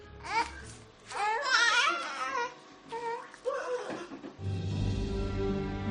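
A baby fusses and cries in short, wavering high-pitched bursts, close and fairly loud, before a steady low rumbling noise takes over in the final seconds.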